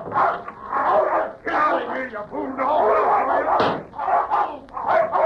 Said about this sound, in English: That dog was aiming to bite me. Yo, and her aim was good, too. I think she got some of your pants